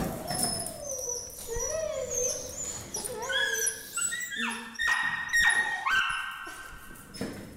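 Two pugs at an apartment, said to barely be able to breathe, whimper and whine continuously in high, wavering tones that rise and fall, their cries overlapping, with a few sharper yelps breaking in midway and no one talking.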